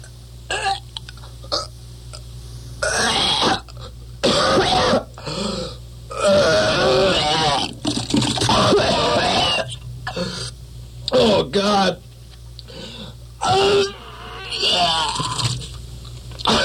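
A man retches and gags repeatedly in close, wet heaving bursts with strained breaths between them, building into loud vomiting sounds, with short pauses and crowd noise in the background.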